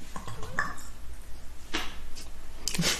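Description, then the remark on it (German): Wet gulping as someone drinks, a few loud swallows breaking through with a gurgling, draining quality like a sink emptying after its plug is pulled, over a low background murmur. “Weißt du, wie sich das anhört, wenn du trinkst? Wenn du so ein Waschbecken einlässt und dann ein Stöpsel rausnimmst, wenn so das letzte Stück vom Wasser...”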